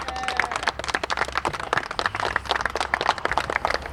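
An audience claps for themselves for about four seconds at a homeless community gathering, a dense crackle of many hands forming sustained applause with no speech over it.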